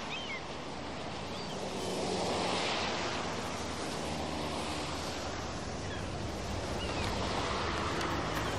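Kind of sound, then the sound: nature, restless sea waves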